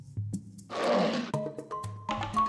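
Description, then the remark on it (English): A lion roars loudly: a short low growl, then a big rasping roar burst, followed by a series of choppy rumbling grunts. “It's a lion! A big lion!”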